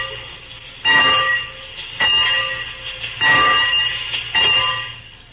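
A steam locomotive bell clangs four times at a steady, unhurried pace, each ring loud and lingering into the next, over a low background rumble. No one speaks.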